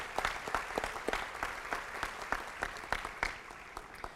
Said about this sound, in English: And also, would the AST project team join them in standing? Ladies and gentlemen, let's offer them a round of applause. They have worked very hard over the last couple years.